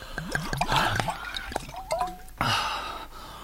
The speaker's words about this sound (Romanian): Apă, apă, apă! Bine, bea.